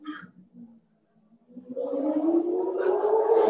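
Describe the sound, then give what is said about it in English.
After a moment of faint low rumbling, a motorcycle engine swells in and holds loud, its roaring pitch climbing steadily as it races past, muffled as heard from inside with all the windows closed. “I hope you can you hear that motorcycle racing by God?”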